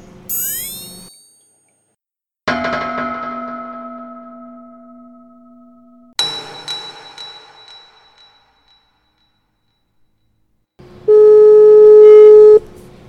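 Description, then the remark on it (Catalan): A phone call being placed as the first prank call of the day: a quick rising electronic chirp, then a few loud tonal dial beeps that ring out and fade, ending in a steady, sustained ringing tone. No one speaks. “Comencem per la primera trucada del dia. Anem a trucar.”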